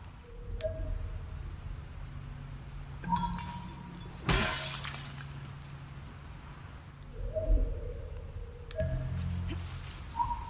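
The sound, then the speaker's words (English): Glass shatters in a loud, bright crash partway through, surrounded by a few smaller impacts and tinkling clinks over a low background hum, with no one speaking. “Watch the glass.”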